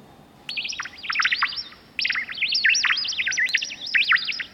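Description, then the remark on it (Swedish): Synthetic birdsong plays in a hospital as rapid, warbling chirps in two continuous phrases, the second starting about two seconds in, bright, with no voices over it. “Här är de syntetiska fåglarna. Som blir glada när man kommer.”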